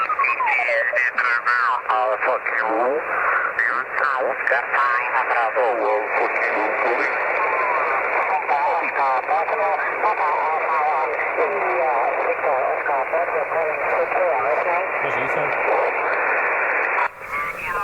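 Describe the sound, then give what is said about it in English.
Amateur radio chatter through a satellite transponder: several overlapping voices warbling in band-limited, tinny audio over a constant hiss, sustained and fairly loud throughout. “So there's actually people having a chat.”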